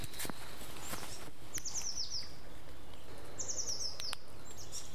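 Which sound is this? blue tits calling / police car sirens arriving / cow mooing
blue tits calling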